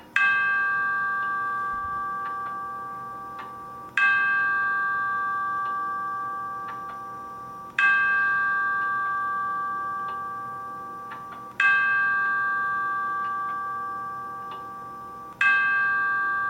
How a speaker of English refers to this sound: A real clock would sound more, well, realistic, I grant you, but this isn't bad for a little app.